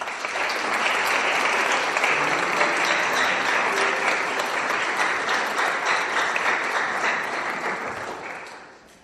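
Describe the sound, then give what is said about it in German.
An audience breaks into sustained, dense applause to welcome a newly baptised child, many hands clapping steadily for several seconds before it tapers off at the end. “Und jetzt dürfen wir ihn begrüßen in dieser Gemeinde. Ich denke mit einem dicken Applaus.”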